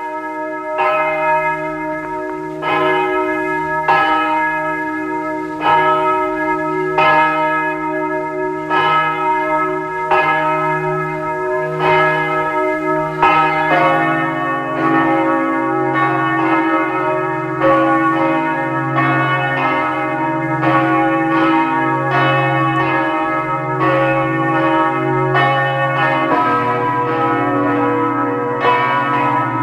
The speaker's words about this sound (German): Es ist 12 Uhr. Sie hören die Glocken der Pfarrkirche von Lackenbach im Burgenland.